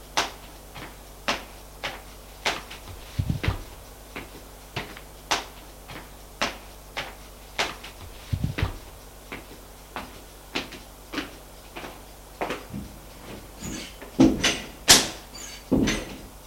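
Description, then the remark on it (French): A door is handled and opened with heavy thuds and a rattling clatter near the end, after a steady series of sharp, evenly spaced knocks or steps. Nobody speaks. “On sonna à la porte. Tous se turent. Martin alla ouvrir.”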